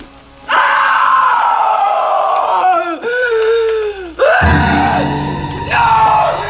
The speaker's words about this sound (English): When the blood flies out of it, and she's freaking out, and you don't know what she's screaming about. Like, she starts screaming, and you're like, what the fuck is she screaming about? And then you see the blood all over the place.